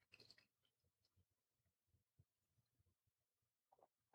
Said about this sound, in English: Okay, I am going to have a little cracker to clear the palate.